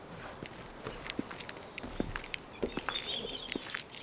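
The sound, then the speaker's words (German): Steady footsteps walking on a freshly paved street, crisp regular steps with a faint bird chirping in the background and no voices. “Die Straße, auf der wir laufen, ist frisch gepflastert.”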